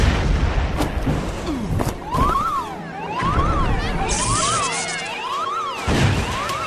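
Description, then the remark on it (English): Several heavy explosive booms and crashing impacts from an explosion in the main shuttle bay ring out loudly, while a warbling alarm siren whoops up and down underneath; no one speaks. “there's been an explosion in main shuttle bay.”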